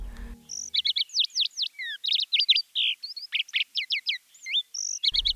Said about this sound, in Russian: Запели жаворонки.